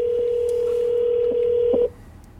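A telephone being dialed for a live on-air call: a steady, unbroken phone tone holds for almost two seconds with a few soft clicks over it, then cuts off abruptly, leaving low hiss.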